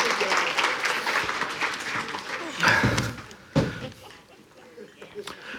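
An audience claps in a dense, steady burst of applause, with a couple of louder thumps partway through before the clapping thins out toward the end.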